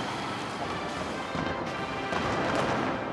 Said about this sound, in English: A spectacular fireworks display in April is rumoured to have been orchestrated by Kim Jong-il's favoured successor, his youngest son, 26-year-old Kim Jong-un.